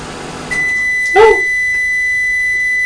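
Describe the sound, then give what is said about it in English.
A microwave oven, run for about 10 seconds to warm bread, finishes with a beep: a steady, high electronic tone over a low running hum, interrupted briefly by a short, louder lower-pitched sound. No one speaks. “Mummy's just going to turn the microwave on for about 10 seconds. So there might be a bit of noise and then we'll hear a beep.”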